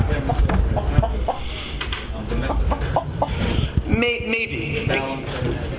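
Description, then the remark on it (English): Chickens cluck in short, scattered calls, with a louder, drawn-out squawking burst toward the end, over a busy background with some faint voices. “So if I were to release these chickens at night, they would fly up to the tree.”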